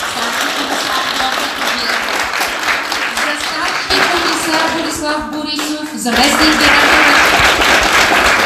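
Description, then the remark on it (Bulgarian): Steady, dense audience applause at a formal ceremony, for the director of the Sofia Metropolitan Directorate of Internal Affairs, runs loudly from start to finish, swelling slightly toward the end, while a voice speaks over the clapping partway through. “Така че много ви моля за още по-силни отпреди малко аплодисменти за директора на Столична дирекция на вътрешни работи.”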